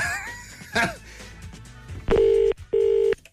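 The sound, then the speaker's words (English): A phone ringback tone on a call to a shop in Crosshaven, Cork, sounds twice in a row, two loud, steady electronic buzzes about half a second each, coming in after a brief stretch of quieter background sounds. “It's ringing again.”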